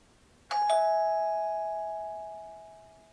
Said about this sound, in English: Ugh, just ring the damn bell.